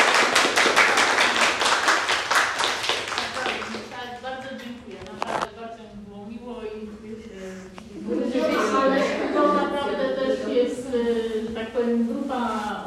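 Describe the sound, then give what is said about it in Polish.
A burst of applause from a small crowd, dense and fairly loud, fills the first few seconds, then fades as people start talking. “brawa, brawa.”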